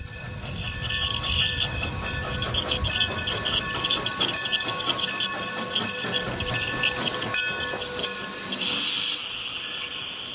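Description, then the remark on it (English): A train rolls steadily along the rails for about ten seconds, a dense continuous rumble with hissing and metallic whining tones, loud, with no one talking. “This train is going.”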